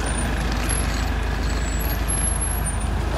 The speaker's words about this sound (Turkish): Şu araba geçsin yanından.